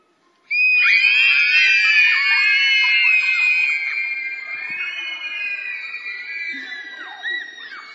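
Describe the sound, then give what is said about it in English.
A crowd of children in a church screams at the top of their voices all at once after a count of three, a dense wall of high-pitched screaming that starts abruptly, holds for several seconds, then gradually tapers off. “You're all going to scream at the top of your voices.”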